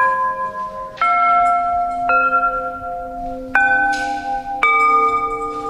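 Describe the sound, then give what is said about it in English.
Chimes of an installation struck with a mallet by a person walking through it, one note at a time at a slow, uneven pace, about five clear strikes. Each rings on and overlaps the next, fairly loud, with no talking. “I figured it might be better for me to walk through it and play it with a chime, because you'll really get a little better sound.”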